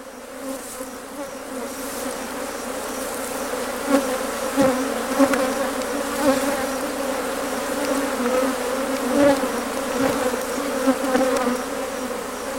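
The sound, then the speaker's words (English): A dense, steady drone of many bees buzzing together, a continuous swarm hum with occasional louder individual passes, and no voices. “Now let's get back to our bees.”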